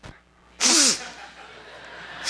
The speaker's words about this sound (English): I have to turn this off and sniff real loud.